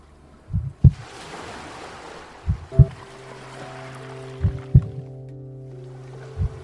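Ocean waves wash steadily in the background while slow, paired low heartbeat thumps repeat every couple of seconds, with soft sustained drone tones layered over them.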